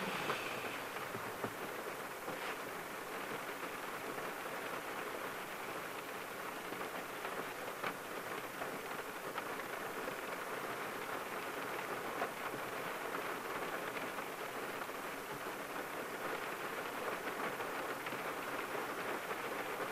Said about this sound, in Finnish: vähän sateen ropinaa.